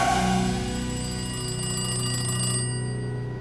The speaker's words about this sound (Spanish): El teléfono del apartamento de Richard sonó con insistencia.